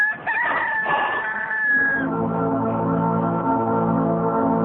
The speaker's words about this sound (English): Again, Peter denied it. And at that moment, a rooster began to crow.